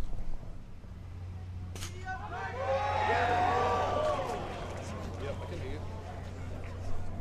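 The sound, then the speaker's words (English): A sharp single crack of Tiger Woods' golf tee shot for the United States on a par five, a poor shot, followed by a swelling crowd reaction of voices and rising whoops that peaks and slowly fades over a steady low hum. “The sound of Tiger teeing off here”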